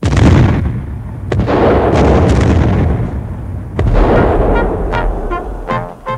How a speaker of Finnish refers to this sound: Ruotsalainen tykistö vastasi ammuntaan ja taistelu alkoi.